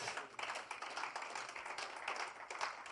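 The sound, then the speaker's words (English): A crowd claps steadily for several seconds for the Lord Jesus, a dense, crackling wash of many hands at an even, fairly soft level with no voices over it. “Clap for the Lord Jesus.”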